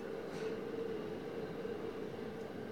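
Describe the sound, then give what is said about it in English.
A steady rumbling drone of a blue train on railroad tracks, continuous, with a sustained mid-range hum and no voices. “I hear a train.”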